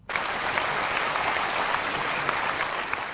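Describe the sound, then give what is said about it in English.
Steady, dense applause from a large crowd at a Bharatiya Janata Party meeting in New Delhi fills the whole stretch, a continuous wash of many hands clapping at moderate loudness with no voices standing out. “Amid applause, former Prime Minister Atal Bihari Vajpayee told the Bharatiya Janata Party meeting in New Delhi Wednesday that its new leader, Lal Krishna Advani, will show the party the way ahead.”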